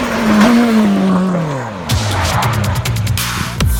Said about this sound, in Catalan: I aquest motor ha ressonat avui a la carretera de Senan en el que ha estat l'entrenament d'un dels pilots del Mundial de Rally. Això abans de la posada a prova al Rally Catalunya Costa Daurada.